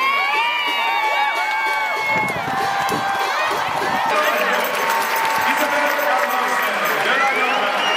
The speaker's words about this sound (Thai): เสียงเชียร์ของกองเชียร์ชาวไทยโดยเฉพาะในช่วงที่โกของไทยวราพรบุญสิงห์สามารถเซฟลูกจุดโทษของนอร์เวย์ได้ในนาทีที่75ซึ่งกองเชียร์ไทยส่งเสียงเชียร์ดังสนั่นอัศจรรย์ดังยิ่งกว่าตอนที่นอร์เวย์ทำประตูได้สิครับ